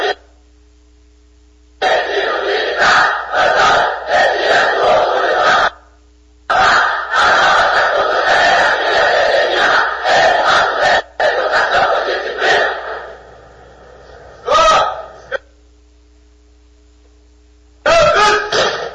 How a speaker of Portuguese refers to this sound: Reunidos, o grito de guerra do pelotão de estudantes chega a arrepiar.